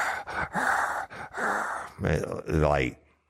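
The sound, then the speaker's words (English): A man imitates heavy breathing: a run of loud, rasping breaths in quick rhythm, ending in a couple of voiced, groaning exhales before it falls silent. “Then he gets up and he sits in the chair and he starts some heavy breathing.”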